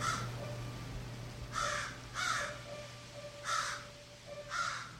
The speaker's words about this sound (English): And it's crow. C'est un corbeau, c'est pas une corneille.